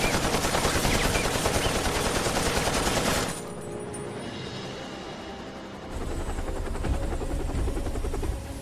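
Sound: helicopter with gunfire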